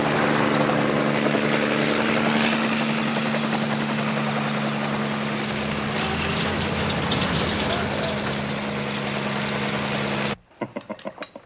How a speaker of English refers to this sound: Wait a second. Wait a minute. Chopper's coming.